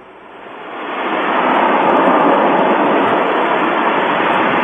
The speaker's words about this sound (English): Kind of a big vacuum, isn't it? Yeah. What is that?